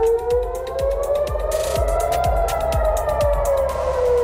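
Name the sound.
air raid sirens wailing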